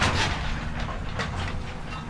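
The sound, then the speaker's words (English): An excavator rumbles steadily as crews tear down a tornado-damaged house in Rowlett, a deep low drone broken by sharp crunching and cracking bursts of debris, with no voices. “a rumble can be heard just outside their front door.”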